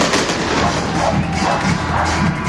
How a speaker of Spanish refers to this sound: Mientras escuchamos los fuegos artificiales, porque hay que dejarlo ahí